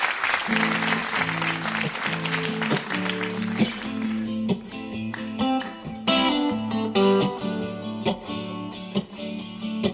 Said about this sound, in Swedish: Musikplats Stockholm. Genom en stor varm applåd, välkommen till Musikplats Stockholm